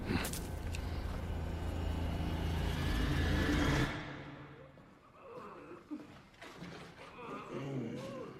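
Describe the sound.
A car engine revs loud and close for several seconds, roaring steadily before cutting off abruptly, after which quieter voices talk over a faint background.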